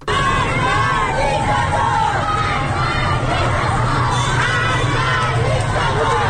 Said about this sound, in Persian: در این یک ساعت اخیر داریم میبینیم که اعتراض ها در واقع نشونه درگیری و شدت بیشترش در بلوار فردوس تهران در منطقه غرب تهران هم در ویدیوهای منتشر شده آتش دیده میشه و معترضان شعارهایی رو سر میدن. صداشو بشنویم.